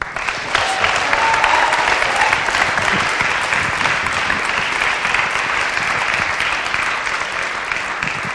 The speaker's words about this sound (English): It's always best to clap before I say anything, I think.